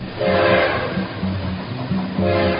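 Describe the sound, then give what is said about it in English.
A train rumbles steadily along the tracks while its horn sounds in several long, blaring blasts, loud, with no voices. “Swap Shop trains are coming, rolling down that free market track.”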